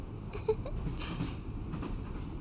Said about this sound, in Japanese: もうすぐ最後の駅に停車します。この列車が止まり次第、本日最後のサービスを行わせていただきますね。